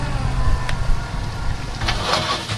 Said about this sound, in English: With an empty deck and at least a few hundred crab in the hold, we chug toward town, one 42-foot boat length at a time.